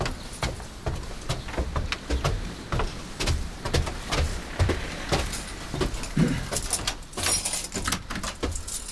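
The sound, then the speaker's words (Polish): Keys jangle and clink in a busy run of sharp metallic rattles and clicks, as if working a lock to open the door of a small church, with no voices. “Tylko ja cały czas mam klucze.”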